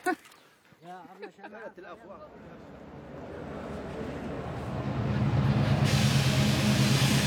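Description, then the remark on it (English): Busy train station platform where people wait for a train back to Cairo: brief voices at the start, then a low mechanical rumble and hiss that swell steadily, as if a train is drawing in loud. “We're back in the train station waiting for our train back on the platform.”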